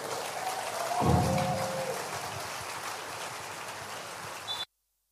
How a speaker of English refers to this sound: Go ahead and give God a praise in the house right now. Come on, sustain the clap. You can do better right now.